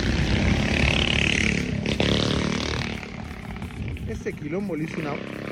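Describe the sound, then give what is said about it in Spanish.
A small motorbike with a tiny engine revs loudly with a buzzy, high-pitched roar as it passes, then drops away after about three seconds as voices talk over the fading engine noise. “Eran esas motitos mínimas. Viste con ese motorcito.”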